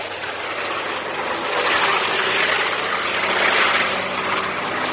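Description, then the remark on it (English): A steady, loud roar of aircraft engines as an aircraft flies overhead during a strafing attack, a broad droning rush that swells gently in the middle and holds without pause, no voices over it. “Hey, listen, hear that? He went over us.”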